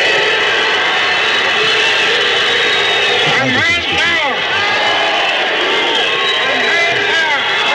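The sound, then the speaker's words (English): A huge crowd in Cape Town, South Africa, roars and cheers Nelson Mandela continuously after he speaks at City Hall, a loud, dense wall of voices and shouts with a brief rising swell of individual yells midway. “Nelson Mandela getting a tumultuous cheer from the crowd in Cape Town, South Africa.”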